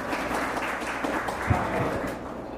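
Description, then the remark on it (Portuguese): An audience applauds steadily for the interpreters present, a dense wash of many hands clapping at an even level with a faint murmur of voices underneath. “Também queria pedir um aplauso para os intérpretes que estão aqui, por favor.”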